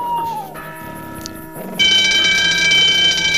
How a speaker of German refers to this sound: Ich habe Alarm ausgelöst.